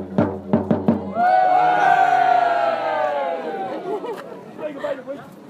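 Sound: fans cheering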